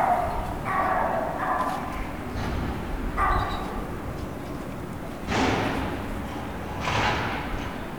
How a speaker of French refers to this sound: J'entends un chien qui aboie.